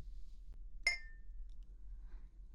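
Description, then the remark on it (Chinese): A single bright clink of glasses touching in a toast with red wine, with a short ringing tone that fades quickly, set against a faint low hum and no talking. “谢谢哥哥，干杯。”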